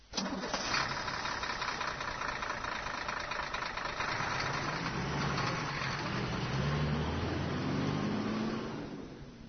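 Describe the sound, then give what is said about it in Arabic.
A car engine turns over and settles into a steady, loud idle as the car stops at a traffic light, a rumble with a rising and falling mid-pitched drone running throughout, with no voices. “أيتها السيارة العجيبة الغريبة، توقفي توقفي. ماذا هناك؟ لماذا تأمرني بالتوقف؟”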